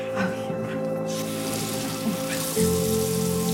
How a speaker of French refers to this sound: J'entends un bruit d'eau, ça m'intéresse. Vous avez vidé la bassine, c'est ça ? Hein ? Vous avez vidé la bassine ? Oui.